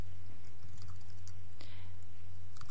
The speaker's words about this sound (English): and so I'm quickly typing him a message about concerns about the name.